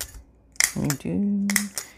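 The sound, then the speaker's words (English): A paper circle punch clacks sharply several times in quick succession, crisp metallic snaps, with a brief voiced hum or murmur between the strikes. “I've never had a personal injury with a paper circle punch before, but you know, anything could happen.”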